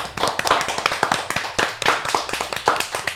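An audience claps steadily to welcome two musician guests, dense overlapping handclaps forming a continuous, fairly loud wash of applause with no voices on top.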